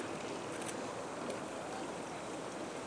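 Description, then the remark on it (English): A rescue boat glides steadily along on water during a race, its hull hissing and washing continuously in a broad, even rush that holds at a constant level throughout, with no voices. “And then there's the rescue boat just coming up in front of us, gliding along.”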